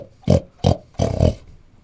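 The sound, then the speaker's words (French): A human voice imitates a pig grunting, with four short, loud, rough snorts, the last two running together, and then silence. “Alors le cochon, il est reparti vers son trou boueux.”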